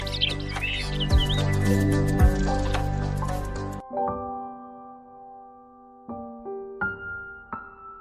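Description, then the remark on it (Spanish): A dense chorus of thousands of chirping birds over a soft, steady breeze for the first few seconds, then the chirps stop, leaving sparse, sustained tonal notes ringing alone. “Solamente con el sonido de una brisa suave y miles de pájaros.”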